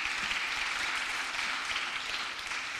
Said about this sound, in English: And so can we just give a hand clap for our volunteers, kind of the secret army of Woodward Avenue?